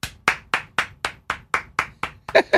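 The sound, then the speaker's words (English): Steady hand clapping on a radio show, about ten sharp, bright claps at an even, brisk pace, ending with a brief burst of voice mixed in with the final claps. “That's a round of applause for us for not doing that yesterday.”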